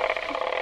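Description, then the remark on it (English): A brief, rough rattling buzz like a ratchet noisemaker being spun, with rapid fine clicks at a steady level, probably a voice imitating the ratchet rather than the toy itself. “A ratchet.”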